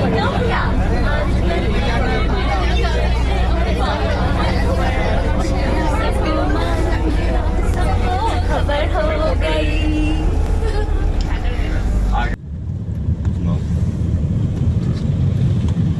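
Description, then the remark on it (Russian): Dense overlapping chatter of many passengers, foreign students from India, inside a crowded bus, with a steady low engine rumble underneath; the voices cut out abruptly near the end, leaving mostly the vehicle's drone. “Переполненный автобус, я не знаю.”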